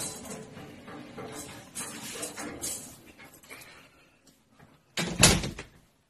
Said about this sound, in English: Mike hears repetitive knocking at the door, and as he immediately answers it, there's no one there.